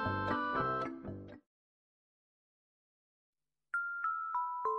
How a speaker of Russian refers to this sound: У него в руках игрушка, погремушка с бубенцом. Мальчик смотрит, что за чудо? Мальчик очень удивлен, не поймет он, ну откуда раздается этот звон?